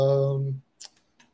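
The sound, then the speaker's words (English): A short hummed voice trails off, followed by three sparse, crisp keyboard taps spaced irregularly, fairly quiet, as someone types a message to someone in a chat. “I'm just typing to someone in chat.”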